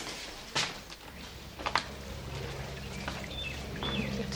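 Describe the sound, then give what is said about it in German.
A brook on the right flows with a steady babbling wash of water, broken by a couple of brief knocks. A few faint bird chirps sound near the end. “Da gibt es noch einen Bach, rechte Hand.”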